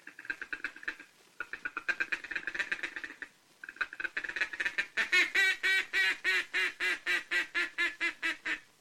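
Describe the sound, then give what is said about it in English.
A duck call is blown: fast, rattling feeding-chuckle chatter in bursts, then a steady run of about a dozen loud, evenly spaced quacks, used to lure approaching ducks. No talking. “That's the time to give them the confidential chatter of the feeding chuckle, cramming in an optimistic quack, quack, quack, quack, quack, quack, quack of contentment as they come nearer and nearer like this.”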